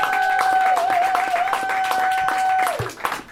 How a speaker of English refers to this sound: Please continue that gracious and loving applause for Amy Miller, Guy Branum, and Steve Hernandez.